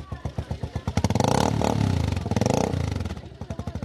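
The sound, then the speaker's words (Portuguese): A motorcycle used to transport sacks of maize flour and rice from a warehouse to a small shop; its engine putters at idle with steady rapid pulses, revs up loudly for a couple of seconds, then drops back to its chugging idle. “Os sacos de farinha de milho e arroz são transportados numa motocicleta.”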